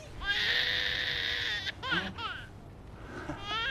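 A baby boy wails loudly in long, high, strained cries, pausing briefly for breath before starting again with shorter, wavering sobs.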